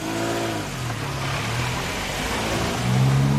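A car engine runs steadily, its hum climbing in pitch and growing louder toward the end as the vehicle accelerates away, as a woman drives off in the middle of the night after loading her car. No voices.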